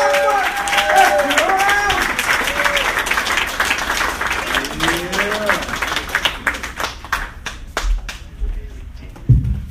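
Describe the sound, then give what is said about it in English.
A small audience at a comedy open mic claps steadily while voices whoop and cheer as a comedian is introduced, then the applause thins out into scattered individual claps before fading. “All right, guys, big round of applause for a good friend of mine,”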